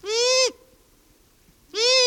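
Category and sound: bird, long-eared owl kazoo-like call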